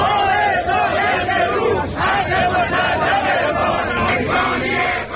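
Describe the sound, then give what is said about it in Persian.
A large crowd of farmers from the east of Isfahan province, rallying on Tuesday in protest at not receiving their water share from the Zayandeh Rud river, chants protest slogans in unison, loud and continuous, with rhythmic shouted phrases rising over a dense background of voices and crowd noise. “گروهی از کشاورزان شرق استان اصفهان در اعتراض به عدم دریافت عقابی خود روز سه شنبه تجمع کردند و با سر دادن شعارهای اعتراضی خواستار دریافت عقابه از زاینده رود شدند.”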